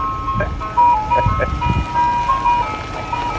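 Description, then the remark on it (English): A custom siren programmed into one Santa Rosa County Sheriff's deputy vehicle, the only one of over 300 with it, plays a bright, stepped melody of shifting electronic tones, almost jingle-like, sounding steadily and fairly loud over a low rumbling background. “We have over 300, and this is the only one with that very unique siren that we programmed into it.”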